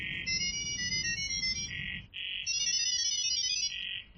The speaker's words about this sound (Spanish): Empiezan a hablar con estos pitidos y en apenas unos segundos las 2 IAs han organizado la reserva del hotel.